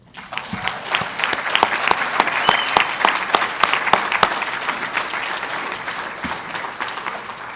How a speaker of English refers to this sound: And I would like to end this talk by giving honor and glory to the one who brought us all together and changed our lives. Would you join me in a round of applause for God?